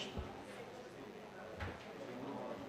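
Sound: door being closed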